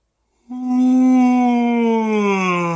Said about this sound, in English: Next, we want to yawn a few times.